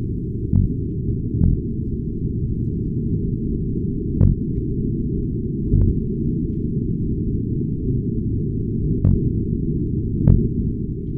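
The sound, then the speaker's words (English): Short, low thumping grunts of male Atlantic cod gathering to spawn, about six spaced irregularly over a steady low underwater rumble, each a brief dull knock with no speech present. “when the cod are gathering like this, the males grunt. And we actually have a recording of what those cod grunts sound like.”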